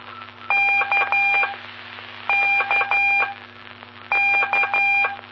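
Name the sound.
morse code telegraphy tones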